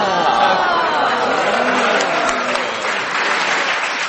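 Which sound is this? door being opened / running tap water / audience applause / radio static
audience applause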